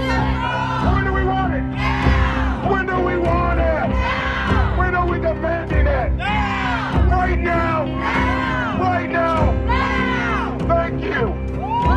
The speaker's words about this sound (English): Then … leads a protest. What do we want? Insulin for all.